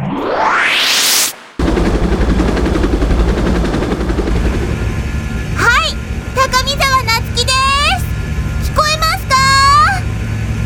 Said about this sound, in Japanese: すごい音だけれど、どこにいるの？ 私は今、三鶴ヶ崎上空を飛ぶヘリコプターの中にいます。